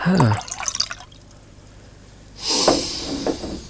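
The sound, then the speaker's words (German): Wine from Trittenheim on the Mosel is poured into a glass at a wine tasting, a short splashing gurgle that rises after a brief quiet pause, preceded by a few soft bottle handling noises. “Machen wir weiter mit dem Trittenheimer Treppenhaus. Also wir gehen an die Mosel. Ich gieß mal ein.”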